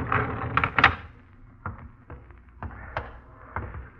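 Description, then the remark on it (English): A door being opened: a cluster of heavy clunks and rattles at the start, then a few lighter knocks and taps spaced out over the next few seconds, with no voices. “Get the door.”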